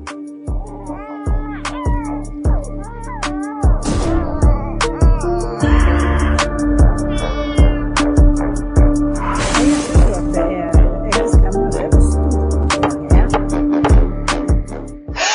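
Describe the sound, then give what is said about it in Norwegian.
A judge's gavel knocks sharply again and again in a steady, quick rhythm, woven into a loud musical intro with wavering, cry-like tones and no talking. “Du hører også dommer hammeren.”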